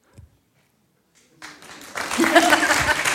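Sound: audience applauding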